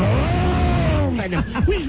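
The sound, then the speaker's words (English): A voice mimics race cars zooming past, a long droning whine that bends downward in pitch, followed by a couple of quicker swooping passes, loud. “The cars go by so friggin' fast, you can't tell who's who.”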